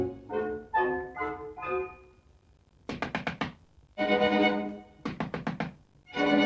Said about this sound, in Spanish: Blancanieves se dirige a la puerta y llama.